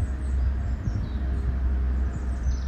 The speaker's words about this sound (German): Ich habe jetzt das Auto mal vorbeifahren lassen. Es tut mir leid für das laute Geräusch